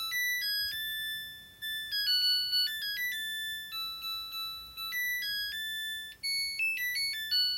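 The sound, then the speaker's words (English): A washer-dryer's end-of-cycle tune: a bright electronic melody of pure, beeping notes stepping up and down steadily for several seconds, playing the Trout theme with no voices. “We got this washer and dryer a few years ago, and it plays the theme to the trout when it's done.”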